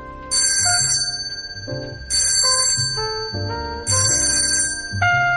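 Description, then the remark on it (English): A chiming doorbell rings several times in a row, each bright melodic strike sustaining and fading before the next, fairly loud with no voices. “The unflat path, the predatory rambling roses, the bell.”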